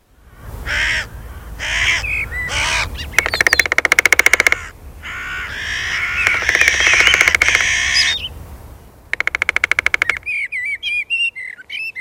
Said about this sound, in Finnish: Ja sitten vielä vaikka keskenään jutustelevat varikset.